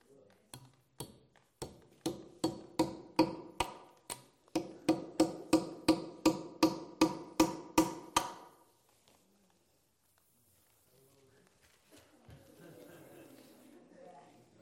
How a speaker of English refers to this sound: Would you do me a favor? We're going to hold this. And let's nail it up there. Can you reach that high?